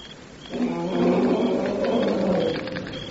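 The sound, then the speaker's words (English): A Somaliland lion lets out a deep, rumbling roar that swells after a brief pause and holds for about two seconds before easing off, loud with no talking. “The Somaliland lion, the bravest.”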